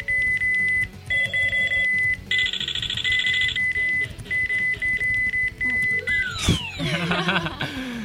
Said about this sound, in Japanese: 必死にキーボードをバシバシ連打してるところを聞いていただいて